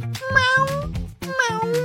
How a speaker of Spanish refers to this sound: ¡Mi gatito! ¡Miau!